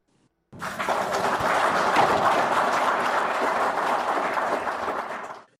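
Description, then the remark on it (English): Zimbabwean officials in Harare, including Wildlife and Environment Minister Opamuchinguri, applauding after receiving anti-poaching equipment from the Sino-Zim Wildlife Foundation Association: steady dense clapping that starts abruptly, holds evenly for about five seconds, then fades out, loud with no talking. “Those are Zimbabwean officials, including Wildlife and Environment Minister Opamuchinguri, clapping after they received anti-poaching equipment”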